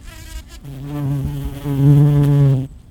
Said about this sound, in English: That's a recent mid-afternoon sound of a carpenter bee gathering nectar from a patch of spring wildflowers and, at the same time, possibly helping to pollinate the plants.